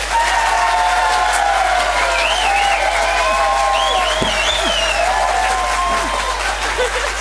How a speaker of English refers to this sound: please make it known by way of applause.